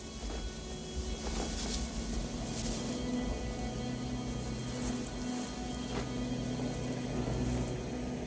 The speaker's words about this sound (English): Camilla walks through sprinklers along the dark road.